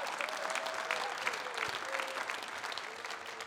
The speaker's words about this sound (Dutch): Kom naar voren, mannen. Geef ze een applaus.